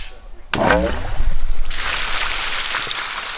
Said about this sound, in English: Dahlman's draining the tank to clean it out. After he's done, each drop of rain that falls on that roof will be used for irrigation, and once it's filtered, for indoor needs, like baths, showers, or washing dishes as well.